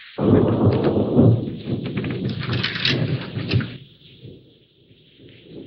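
A loud, heavy rumble of thunder from an approaching storm rolls for several seconds with crackling texture, then fades into a low grumble.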